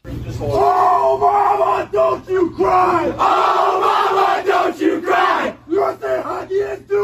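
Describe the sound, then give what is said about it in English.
The USA hockey team, young men, chant loudly and rhythmically together in a locker room after a game while being sprayed with water, shouting "USA hockey is do or die!" in unison with short breaks between phrases, over a constant low hum. “They're in the locker room. They're getting sprayed with water because they're not allowed to drink beer. Right. Which I thought was kind of funny. But then they start this chant.”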